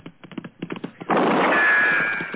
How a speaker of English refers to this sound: Ow! Shot a goat.